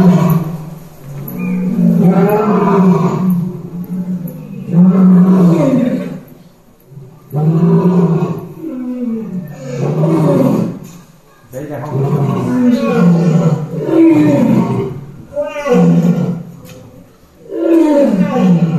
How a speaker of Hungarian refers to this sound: Ezt képzeljétek, ez tényleg oroszlán hang.